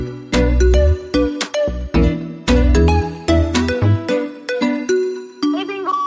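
A phone ringtone for an incoming call plays a bright, synthesized melody of quick repeating notes, loud, ringing continuously for several seconds with no one talking over it.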